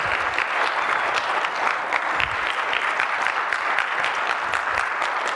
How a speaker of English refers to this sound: You know what? You should clap for all of this.